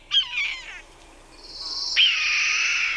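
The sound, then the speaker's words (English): A red-tailed hawk, a field hawk of open country, gives a harsh, raspy scream that stretches out for over a second, loud, after a brief burst of shorter, tonal calls. No one speaks. “So the next, after red-shouldered hawk, this time of the year, the next go-to would be red-tailed hawk.”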